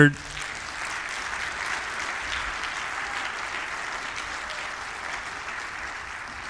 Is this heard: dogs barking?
no